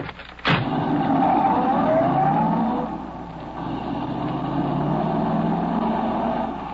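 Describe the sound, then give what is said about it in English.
A getaway car's engine starts with a sharp click, revs loudly with rising pitch, then settles into a steady driving hum as the vehicle pulls away, with no talking. “Is that the car there?”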